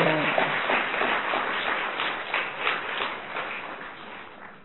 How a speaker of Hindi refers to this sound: अब मैं दादी आई है, वंडरफुल, देखो कितनी खुशी की, ताली तो बजाओ।